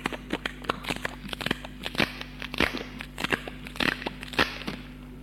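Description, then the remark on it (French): Irregular crackling of adhesive tape being pulled and pressed down to seal gaps and stop air getting through, a steady stream of sharp crinkly snaps over a low background hum, with no voices. “Un bruit étrange comme un craquement. Il comprend que c'est du scotch qui bouche les fentes pour empêcher l'air de passer.”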